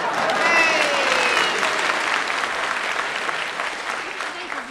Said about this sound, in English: Pauses for audience applause. Continues that. I should have said that before when you clapped earlier.